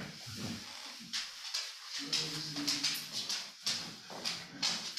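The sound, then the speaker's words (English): A dog that keeps coming into the room whimpers, letting out a few thin, drawn-out whines amid rustling and light clicking movement noise. “The dog keeps coming in the room.”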